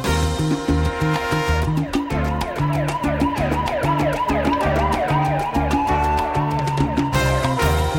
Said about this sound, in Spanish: Bueno, tiene hasta sirena de policía o de ambulancia, tremendo trombón, …, inconfundible. Todo un clásico de la salsa,